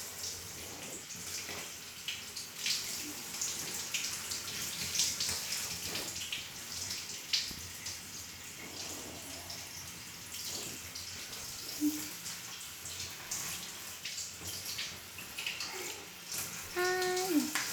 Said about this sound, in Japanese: じゃあ、シャワーで流すよ。